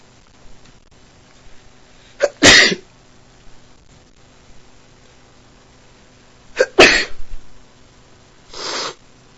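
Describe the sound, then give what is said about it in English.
Two sharp sneezes a few seconds apart from a person who has just woken up with a tickling nose, each preceded by a quick intake of breath, followed by a softer breathy sniff at the end. Otherwise quiet, no talking. “So I don't know how many times I'm gonna sneeze, but I know I'm gonna sneeze again.”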